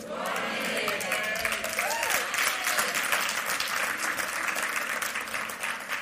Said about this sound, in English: Before I begin, I'd just like to give another round of applause to our praise and worship team today.